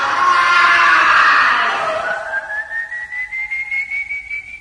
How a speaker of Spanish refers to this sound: Rueda varias veces por el suelo, pero continúa defendiéndose hasta que, agotado y ya sin fuerzas, lanza un último grito y cae desmayado frente al tranquero de los malabares.